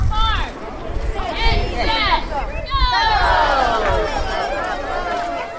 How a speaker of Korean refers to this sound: 달걀 찾기 시작을 알리자 아이들은 환호성을 지르며 눈에 보이는 달걀을 자신의 가방이나 바구니에 담기 시작했지요.